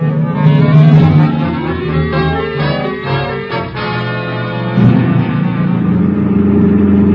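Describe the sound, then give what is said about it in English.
A car engine drones steadily throughout, a loud rumble with a few shifts in pitch as it revs and changes speed while driving toward a radio station in the city, with no voices. “Okay, pull up in front of the building.”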